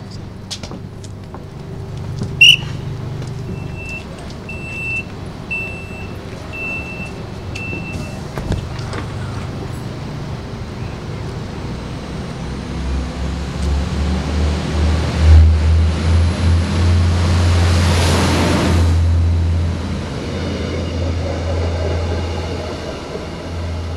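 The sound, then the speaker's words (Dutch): An express train pulls into Buitenpost station with a deep, steady low drone that swells louder midway, brakes hissing and squealing faintly, a brief high beep early on, then the roar settles as it slows. “En de sneltrein die rijdt het station buiten Post binnen.”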